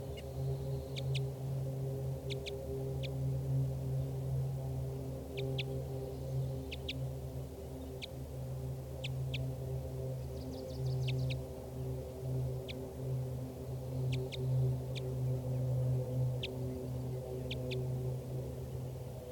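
Short, high-pitched flight calls of a wild female bird come in quick pairs and clusters, repeated at irregular intervals over a steady low rumbling hum. No one speaks.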